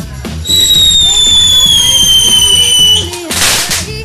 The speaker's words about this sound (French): Les artifices commencent à péter en cramant le lino. On sait pas si on va pas foutre le feu au fourneau ce soir.